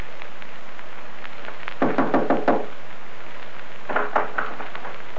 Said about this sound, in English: Wilde had no inkling of this when he rapped on Blueskin's front door that night